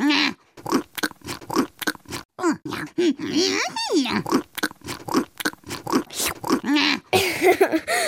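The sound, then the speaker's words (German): A voice imitates a pig, grunting and snorting in quick, irregular bursts, fairly loud, with a brief rising squeal-like sweep partway through. “Weil er super gegrunzt hat.”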